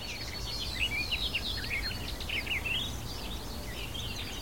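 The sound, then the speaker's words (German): A barred warbler sings a rapid, scratchy warbling phrase of chattering notes over a steady low outdoor rumble with no voices. “Ich sage Dankeschön fürs Zuhören und Dankeschön an die Sperbergrasmücke.”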